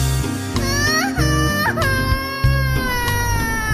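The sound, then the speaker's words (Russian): A girl wails loudly and continuously, the cry rising in a few sobbing swoops, set against a steady, bouncy musical accompaniment throughout. “Наша Таня громко плачет.”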